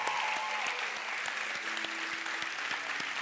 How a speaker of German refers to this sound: Könnt ihr mal euch kurz aufstehen, euch umdrehen und einen riesen Applaus für euch.